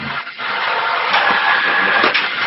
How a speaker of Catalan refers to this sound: crec que és Eduardo, perquè és una impressora